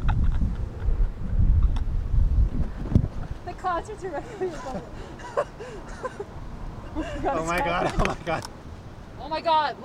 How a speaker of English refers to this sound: It's so windy.